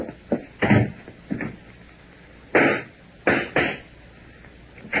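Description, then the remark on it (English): A volley of gunshots, several sharp cracks fired at irregular intervals with short gaps between, sounding slightly muffled, coming from a back hallway, with no voices. “what were those shots?”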